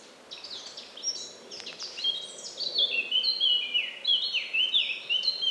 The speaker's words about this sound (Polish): tym momencie jest bardziej zgrzytliwie, dlatego że no właśnie, one się spotkały ze sobą, dwa samce, kiedy robi się nerwowo u kapturek i u wielu ptaków z tej rodziny, no to już zaczyna się przekomarzanie się rzeczywiście. No, debata między nimi trwa.